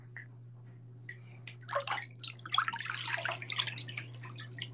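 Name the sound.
water sloshing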